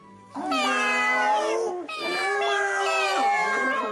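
Neighbourhood cats meowing in two long, drawn-out cries, one right after the other, loud and nasal with a wavering, sliding pitch and no talking, as they turn up when the house doors are opened in the morning.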